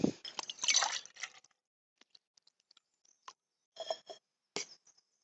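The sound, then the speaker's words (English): Khalifa Farms Cold Brew Black Coffee, blonde roast, pours into a cup in a short gurgling stream, then trails off into scattered drips, faint clicks and two brief splashy bursts. No one speaks. “All right, I've poured a cup.”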